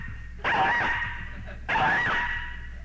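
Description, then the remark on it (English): A person's voice mimics a little old dog yapping because it wants to be let out: two drawn-out, high, whiny yelps in a row, fairly loud, with a short pause between them and no other talking. “There's that big old dog out there watching him, and this little old dog wanted out. And that little old dog said...”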